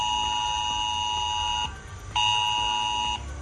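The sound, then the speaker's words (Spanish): A mobile phone emergency alert tone sounding on phones in Asturias as a drill to test the emergency alert system: a loud, steady, piercing electronic tone with bright harmonics sounds for over a second, cuts out briefly, then returns for about another second. No one speaks. “Este martes va a saltar en los móviles de Media Asturias esta alerta.”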